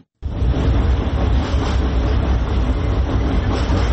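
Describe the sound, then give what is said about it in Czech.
A loud, steady mechanical rumble of a tram rolling across the Old Sava Bridge over the Sava river in the capital, with dense low-end roar and faint rattling continuing throughout after an abrupt start. No voices. “Huk tramvaja preko mosta na Savi, jednog od simbola glavnog grada, prema najavama vlasti, broji svoje posljednje mjesece.”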